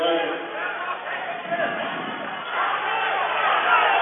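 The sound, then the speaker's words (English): A gym crowd shouts and clamors in a dense, continuous wash of voices, swelling louder toward the end, with no single speaker standing out, as fans claim possession for Blue Hill after the ball goes out of bounds in a game against Sandy Creek. “Crowd says it belongs to Blue Hill.”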